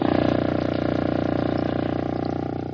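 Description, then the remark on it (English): A single very low contrabassoon note, one of the lowest audible to the human ear, played by Professor Abe Reines of the NBC Symphony, is held steadily for nearly three seconds, a deep, buzzy, rattling drone that fades slightly at the end, with no one speaking. “The note you just heard is one of the lowest audible to the human ear. It was played on the contrabassoon by Professor Abe Reines of the NBC Symphony, who is one of the world's greatest contrabassoonists and who tonight is out slumming.”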